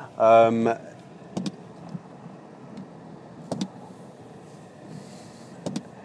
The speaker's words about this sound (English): Yeah, I'm just reversing the car now, actually.